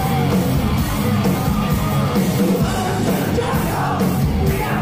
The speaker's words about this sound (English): And the whole crowd singing.